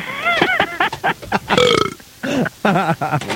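burp

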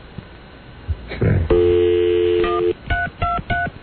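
telephone being dialed

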